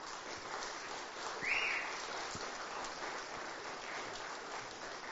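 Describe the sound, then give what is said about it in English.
A crowd gives a round of applause to thank a group of men, a steady, dense wash of applause that holds at an even level throughout, with no voices heard over it. “But let's just do that in a very tangible, practical way now and just give them a round of applause.”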